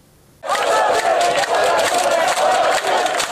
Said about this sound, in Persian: تصاویر اختصاصی رادیو فردا از تظاهرات پناهجوها در جزیره لسبوس یونان. فریاد می زنند آزادی. از اردوگاه و جزیره قفس مانندش خسته شدند. اینجا جزیره لسبوس، مردم همگی تو خیابونا هستن و همگی یک صدا دارن میگن که لطفا ما رو از اینجا انتقال بدین.